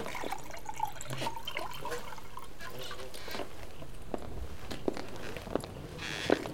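Water pours steadily into a glass for a guest for several seconds, a continuous splashing trickle with a few small clinks and drips near the end. No one speaks.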